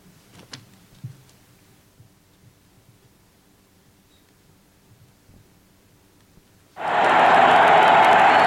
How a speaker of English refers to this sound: it was essentially a home game for the Arizona State fans because of the proximity to Phoenix. And what we're going to see is a clip in which play was stopped due to excessive crowd noise by the Arizona State fans.